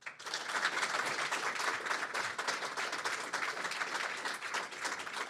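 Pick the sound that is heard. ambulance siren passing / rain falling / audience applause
audience applause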